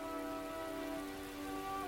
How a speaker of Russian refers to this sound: Сказочный лес. Иван в рубахе под струями дождя.